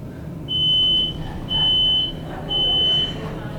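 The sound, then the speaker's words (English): A smoke alarm sounds three loud, piercing high-pitched beeps, each about half a second long, repeating at a steady one-second rhythm over a low background hum; the alarm is too far away to be fanned. “At home, when my smoke alarm goes off, I fan it, but it's a little far away for that.”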